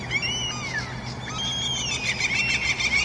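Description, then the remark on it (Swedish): Gulls screeching outside a bedroom window at 6:15 in the morning, harsh rising and falling calls overlapping in a continuous raucous chorus over a steady low background hum, with no talking. “Det låter som att de skrattar efter att de har tänt eld på en kyrka, för fan. Jävla black metal fiskmåsar där.”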